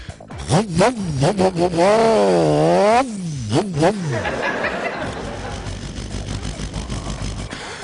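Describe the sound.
A voice imitates a Suzuki 1000cc motorcycle engine revving: a buzzing hum that swoops up and down in pitch several times, ending in a loud rising rev before trailing into breathy noise.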